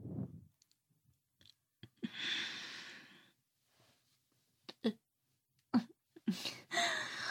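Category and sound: human body sound, burp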